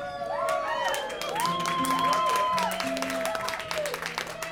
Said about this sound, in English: But you should tell your lover what you like, right? And I love an applause before I start.